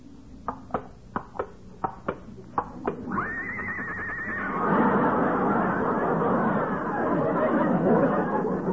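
A run of steady hoof clops is followed by a loud, wavering whinny from Lillian, a horse brought out as the model for an art class, and then a crowd breaks into chatter and laughter that continues to the end.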